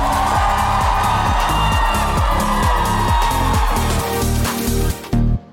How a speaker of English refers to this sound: Ladies and gentlemen, please give a warm F1 Explains round of applause for being brilliant in answering our first question.